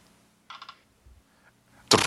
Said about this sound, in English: Okay, I'm getting ready to roll dice again. I'm going to roll a 20-sided die.